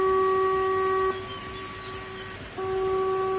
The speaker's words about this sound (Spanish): Y hoy un simulacro de rotura del embalse Cecebre ha hecho sonar las sirenas de emergencia toda Galicia.